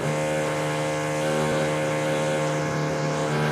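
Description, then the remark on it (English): A steady mechanical whir from a drill runs without a break, a loud motor hum with a strong buzzing pitch and no change in speed. No voices are heard. “What the hell was that? I think it was a drill.”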